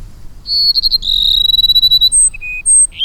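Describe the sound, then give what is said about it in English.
A male Cassin's sparrow sings its courtship song in the Sonoran Desert after the late summer rains, clear and loud: a few stuttering notes, then a long trilled high whistle, ending in several short, sweet whistled notes over a faint low rumble. “Cassin sparrows have waited for the late summer rains to begin their courtship. Now the males sing their plaintive phrases almost nonstop.”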